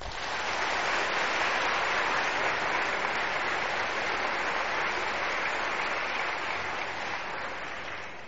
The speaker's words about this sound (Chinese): 大家再鼓掌一次。